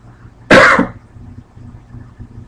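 A single loud cough, a short harsh burst lasting under half a second, followed by quiet with a low background hum and no talking.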